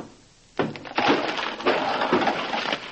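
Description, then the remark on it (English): The wooden wall of a newly finished house is knocked down, collapsing with a sudden loud crash after a brief quiet moment, followed by about two seconds of splintering, clattering timber and thuds before it fades. “You fool, you knocked the wall down.”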